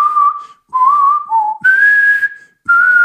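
A person whistles a short tune up close, four sustained notes at shifting pitches with brief pauses between them, clear and fairly loud with no talking.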